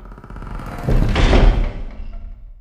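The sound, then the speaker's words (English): The door of Dr. Magic's audio lab swings shut with a single heavy, booming thud, loud, its low rumble trailing off into quiet. No voices are heard. “Please close the door on the way out.”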